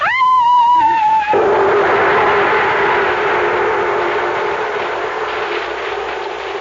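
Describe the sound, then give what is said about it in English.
A voice imitates a ghost's scream meant to scare someone: one loud, high wail that swoops up and holds steady for just over a second, then gives way to a continuous rushing, rumbling noise. “And then I scream like this.”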